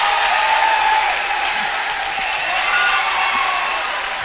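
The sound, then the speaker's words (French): Sustained applause from an audience, a dense, steady patter of many hands clapping at a fairly loud, even level throughout. “Merci de l'applaudir de devant.”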